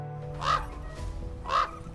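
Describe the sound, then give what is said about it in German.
A raven caws twice, harsh and throaty, about a second apart, as it flies toward the roof of a house, clear over a low background rumble with no talking. “Da, der Rabe fliegt aufs Dach von eurem Haus zu.”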